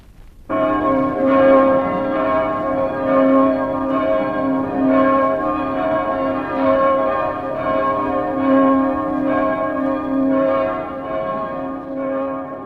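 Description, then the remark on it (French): Church bells ring continuously, several overlapping peals blending into a dense, resonant wash of tones that swells and sustains steadily with no voices present. “Tintement de cloches.”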